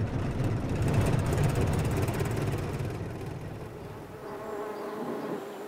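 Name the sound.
honeybees buzzing around hives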